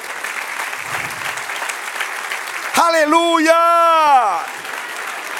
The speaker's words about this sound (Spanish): Oh, gloria a Dios. Denle otro aplauso, Señor.